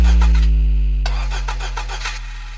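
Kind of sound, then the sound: vehicle, car engine starting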